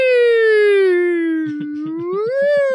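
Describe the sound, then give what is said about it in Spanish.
A loud ambulance siren wails in one long tone that slowly dips and then rises again, with a rhythmic low thumping joining partway through. “La ambulancia, ¿dónde está?”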